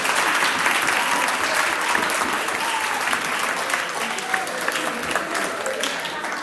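audience applause

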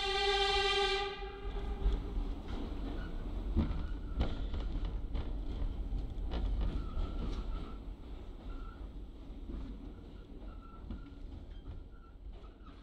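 subway train running

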